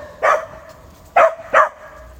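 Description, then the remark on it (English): Three sharp dog barks ring out in a park, the first alone and the last two in quick succession, with a faint steady hum in the background and no one talking. “Very noisy dog suddenly come into the park.”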